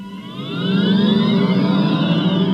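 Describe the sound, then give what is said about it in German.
An electric car drives along a street, its high motor whine rising steadily in pitch over a soft rush of tire and road noise, growing louder as it approaches. “Ja, in 13 Jahren sollen in der EU keine Autos mehr mit Verbrennermotor verkauft werden dürfen, sondern nur noch Elektroautos, zumindest wenn es nach dem Europäischen Parlament geht.”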